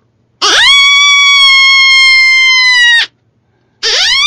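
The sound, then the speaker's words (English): A loud, sustained howl blown on an open reed call, rising sharply then holding a bright, buzzy tone for over two seconds before cutting off, followed by the start of a second howl. “And you could even howl with them.”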